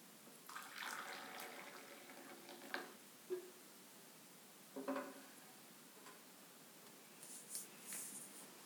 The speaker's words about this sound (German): Teetasse und gieße den Tee ein.